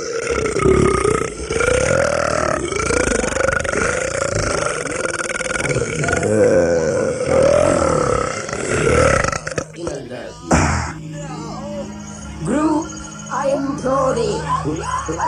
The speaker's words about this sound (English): We want to hear the belch that's going to send you away from us.